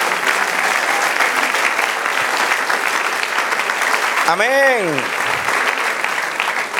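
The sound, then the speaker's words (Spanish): A church audience applauds the Lord in celebration, steadily and loudly throughout, a dense wash of clapping hands, while a single voice calls out briefly over it partway through. “Denle otro aplauso al Señor, celebre.”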